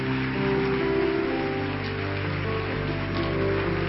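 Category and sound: crowd, audience applause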